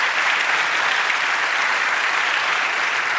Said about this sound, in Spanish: Dale un aplauso, Señor. Aleluya.